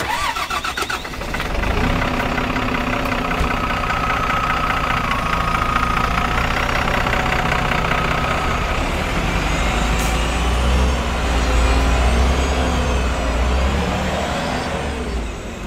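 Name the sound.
bus engine running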